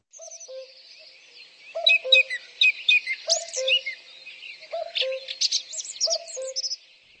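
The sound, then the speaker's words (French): A cuckoo calls its descending two-note cry about five times at a steady pace, with busy songbird chirps and trills twittering above it throughout. No voices. “Le coucou a bien fait son travail.”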